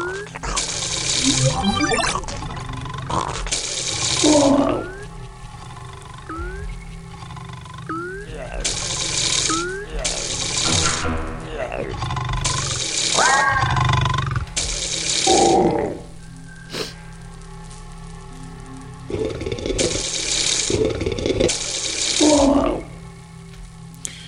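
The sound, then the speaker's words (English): Running water rushes in repeated loud bursts over a steady low hum in a power station level of a video game, with echoing metallic tones and scattered vocal sounds. “I'm surprised this place isn't really messed up because of all the water in here.”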